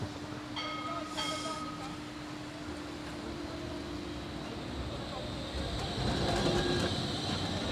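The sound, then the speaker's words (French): A tram rumbles past, a steady low roar with metallic tonal squeals and a brief bell-like chime, swelling louder toward the end. “Parce que les voitures s'arrêtent, mais les tramways, jamais. Les trams, non.”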